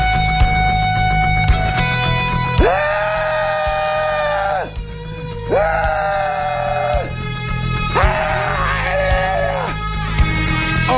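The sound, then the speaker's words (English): A man screams three times in long, drawn-out, wavering wails with short pauses between them. The cries are loud, with a faint steady background hum and no words spoken. “I was just practicing for our rally later today. Scream helplessly at the sky rally over Hillary Clinton losing the election.”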